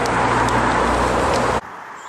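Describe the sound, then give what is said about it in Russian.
Steady, loud road noise with a broad rumble of traffic as cars pass on a road by a lake, cutting off abruptly to a quieter background near the end. “Машины идут.”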